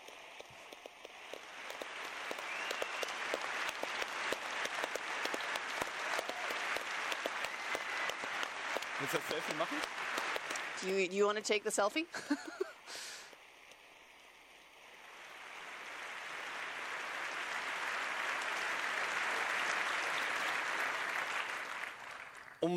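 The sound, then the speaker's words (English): Sustained applause from a crowd for people who will join and help others on site, steady and dense, breaks for a moment while a voice speaks, then swells back into a second long round of clapping. “So today, a big round of applause for all of those people that have said that they will join, they will help people on site, how they can switch.”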